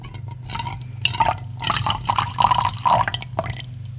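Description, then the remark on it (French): Tap water splashes into a glass in a bathroom in an uneven, gurgling stream, moderately loud, with a steady low hum underneath and no voices. “Je sers un verre d'eau du robinet.”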